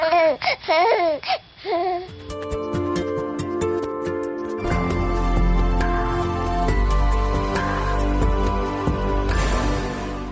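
infant crying

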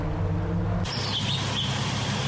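hummingbirds chirping

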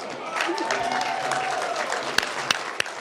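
audience applause and cheering

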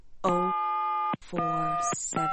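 telephone keypad dialing tones

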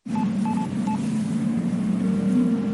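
telephone dialing tones

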